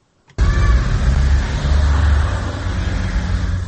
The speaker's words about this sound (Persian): ماشین های خدمتی منصبداران سطح بالای حکومت تاجیکستان است که صبح بر وقت از قرارگاه خود از محله یکم سویتسکی شهر دوشنبه خارج می شوند. ماشین های خدمتی منصبداران تاجیکستان خیلی گران ارزشند.